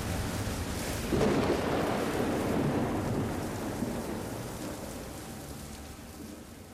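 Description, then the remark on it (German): A thunderstorm at night over a small village, with lightning and a howling wind: heavy rain hisses steadily throughout while a deep, rolling rumble of thunder swells early on and slowly fades, with no voices. “Es blitzte und krachte und der Sturm heulte.”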